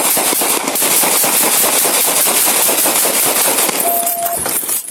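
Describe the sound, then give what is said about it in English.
A police officer fires at an armed suspect, a rapid, sustained volley of loud gunshots cracking in quick succession for several seconds, with a brief steady electronic tone sounding near the end. No one speaks. “I also want to mention the officer said to drop that gun 7 times and 3 times to put his hands on his head before he started firing.”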